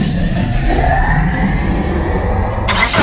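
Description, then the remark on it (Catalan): A car engine runs loud, a steady low rumble throughout with no voices, ending with a brief burst of bright hiss. “Vols un motor amb potència i bon rendiment?”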